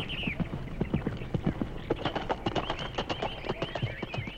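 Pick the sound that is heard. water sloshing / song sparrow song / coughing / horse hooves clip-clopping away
horse hooves clip-clopping away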